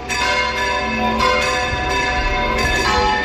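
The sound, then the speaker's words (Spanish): Church bells of the 17th-century church of San Jaime in Relleu pealing in full swing to mark the start of the San Antoni festivities, their rich overlapping clangs ringing out loud, with fresh strikes landing every second or so over a sustained wash of ringing tones. “El volteo de las campanas de la iglesia de San Jaime en Relleu, por cierto, templo del siglo XVII, marcará este sábado el inicio de las fiestas de San Antoni en Relleu.”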